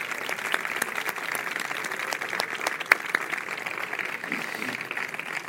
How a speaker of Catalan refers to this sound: Així que també m'agradaria donar un fort aplaudiment a totes elles.